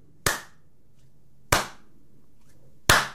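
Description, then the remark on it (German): Three sharp, isolated hand claps spaced slowly and fairly evenly apart, each a bright crisp crack with a short fading tail, over a faint low hum and no talking. “Und jetzt alle mal Applaus.”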